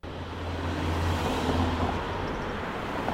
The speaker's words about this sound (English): Cars are speeding by on a busy street in Madison.